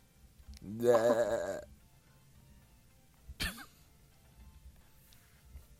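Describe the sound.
A person imitates a goat's bleat: one loud, close, wavering nasal cry lasting about a second, followed after a pause by a short, sharp throaty sound.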